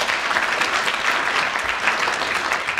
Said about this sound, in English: Another extra round of applause and a bonus point to Clement Freud.